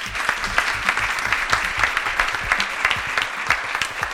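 An audience claps steadily, a dense patter of many hands with sharp individual slaps throughout, sustained at an even level for the whole stretch with no voices.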